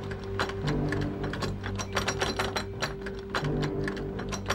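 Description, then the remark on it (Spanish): Metallic clicking and ratcheting as a man works at the lock of a front door to force it, rapid irregular clicks over a steady mechanical hum, fairly loud, with no voices. “Al mirar por la mirilla, notó que un hombre intentaba forzar el cerrojo.”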